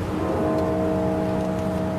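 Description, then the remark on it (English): A bell from the 2018 funeral of former President George H.W. Bush rings with a deep, sustained tone whose steady hum lingers for the whole moment, loud and unbroken, with no voices over it. “Those bells are from the funeral of former President George H.W. Bush in 2018.”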